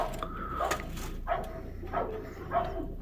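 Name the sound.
police dog barking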